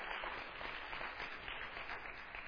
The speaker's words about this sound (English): Offer an applause and thank God.